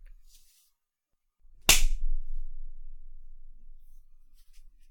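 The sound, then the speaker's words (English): A single sharp, loud slap of a hand on a person's buttocks cracks out once, followed by a faint low rumble fading away; no one speaks and the rest is nearly silent. “Can I slap it?”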